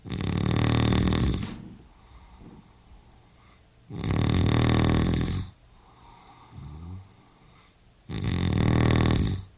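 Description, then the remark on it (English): A man snores loudly while asleep in his bedroom at night: three long rasping snores in a slow steady rhythm and quieter breathy gasps between them. No one speaks. “My father's snoring is only one of the many aspects of my parents' long and most of the time happy marriage that I will probably never understand.”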